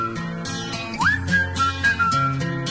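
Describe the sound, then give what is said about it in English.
A pop song opens with a bright whistled melody gliding upward and then holding steady notes over a full, rhythmic backing track, loud with no one talking, played as a world-exclusive first play on Today FM radio. “This is the first play anywhere on earth.”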